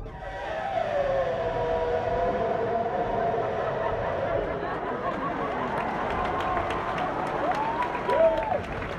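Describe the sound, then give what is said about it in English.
A crowd of voices imitates an elephant's trumpeting, following a leader who holds an arm in the air as the elephant's trunk. A blaring, wavering group call sustains for several seconds, with a final rising whoop near the end over noisy crowd chatter. “And now, let's hear the elephant call.”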